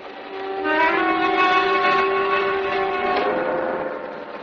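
train running on rails

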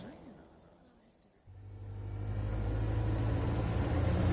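car engine running

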